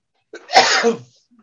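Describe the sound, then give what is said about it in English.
A single sharp sneeze from an attendee during a planning meeting bursts out, starting with a brief intake and then a loud, noisy explosion lasting about half a second before fading quickly to silence. “Bless you, whoever that was.”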